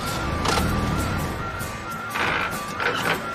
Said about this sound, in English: Now in the driver's seat, Nick tries to start his car.